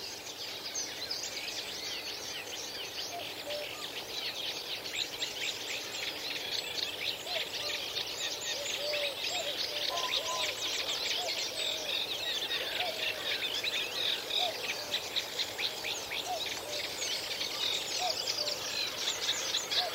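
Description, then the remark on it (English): A Cetti's warbler sings in a reed bed in Newport, Wales, amid a dense, steady chorus of rapid, high-pitched chirps and trills that runs unbroken for the whole stretch, with no voices. “But for the Chetty's Warbler, another kind of a bit of a Welsh tink to it, it kind of goes, it really does shout out.”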